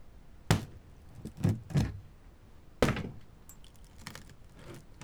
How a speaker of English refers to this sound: Ah, there you are, my trusty axe. I wonder how easy it would be to break open this door.